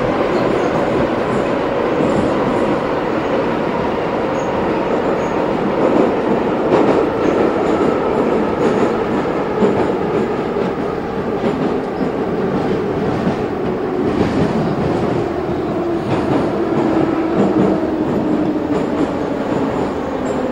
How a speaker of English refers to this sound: Maybe we should be quiet for a few moments so people can enjoy the real Moscow subway feeling. Okay, well, we'll be silent until we actually arrive at our stop, which I think is about now.